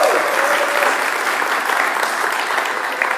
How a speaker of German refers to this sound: Ja, das war noch verhalten. Ich finde, das könnte ruhig noch mehr Applaus werden